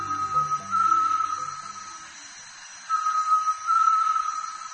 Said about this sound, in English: This eerie sound can be heard in the lowland jungle throughout much of Central and South America. It's the voice of a great tinamou. Secretive, and almost impossible to see. Great tinamous call early and late in the day